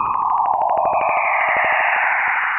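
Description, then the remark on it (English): Eerie electronic space sound of Jupiter's plasma waves: a steady whooshing hiss with a rising and falling whine, crossed by rapid rhythmic clicking pulses that quicken throughout, loud and continuous. “Jupiter's plasma waves.”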